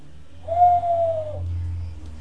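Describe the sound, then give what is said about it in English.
A person imitates an owl with one long, steady hoot that lasts about a second and dips slightly at the end. A low background rumble runs throughout, and no one speaks. “What's an owl say? Tweet too. It goes like this, look.”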